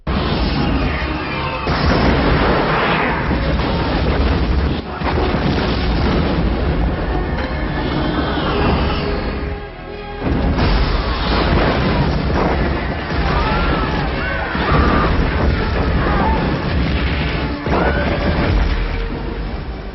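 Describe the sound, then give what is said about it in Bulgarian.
Loud, continuous cinematic destruction from a meteor strike scene in the film Armageddon: repeated booming explosions and crashing debris rumble one after another, dense, with a brief dip in the middle before the barrage resumes. “Във филма «Армагедон» са показани огромни разрушения, които биха предизвикали малките метеори.”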